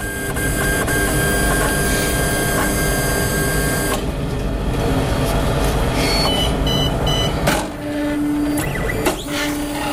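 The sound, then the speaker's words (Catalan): A laboratory printer that prints with cells instead of ink runs continuously, a dense mechanical whir and hum with steady tonal drone, shifting texture partway through, then a few short high electronic beeps near the end. No voices. “Això sona impressora, eh? Sí, impressora.”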